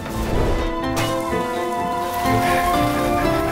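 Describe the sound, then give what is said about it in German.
Steady rain falls throughout, a continuous close hiss of drops, with sustained musical tones ringing over it and no one speaking. “Es geht über Flüsse, es geht über Seen, sogar wenn es regnet.”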